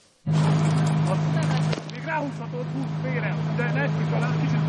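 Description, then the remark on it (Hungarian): An assault boat motor kicks in abruptly and drones steadily, with a constant low hum and water wash, while indistinct voices murmur underneath; students of the Hungarian Shipping Vocational School drive the assault boat at the Hungarian Defence Forces' military harbour. “A diákok rohamcsónakot vezethettek, evezhettek és betekintést nyerhettek a hivatalos szervezetek munkájába is.”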